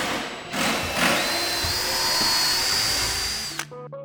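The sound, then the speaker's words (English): A power drill whirs steadily, its motor pitch rising as it drives into material, then cutting off abruptly near the end with a brief clatter; drills and drivers are being used by small teams building two benches and a bookshelf. “Everyone's using drills and drivers.”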